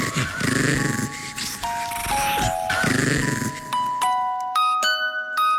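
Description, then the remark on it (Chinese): A pet dog, Mun Mun, whines and growls up close in rough, uneven bursts, followed by a short run of clear, rising musical notes played one after another. “唔系，我觉得佢系想讲 Do Re Mi Fa Sol，连狗仔都中意听。”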